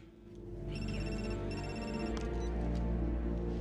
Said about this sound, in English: Ethan's phone rings and he hurriedly withdraws into the corridor.